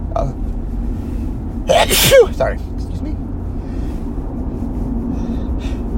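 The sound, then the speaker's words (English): Two sharp sneezes burst out in quick succession, fairly loud, over a steady low rumble like the hum of a moving vehicle. “Double sneeze.”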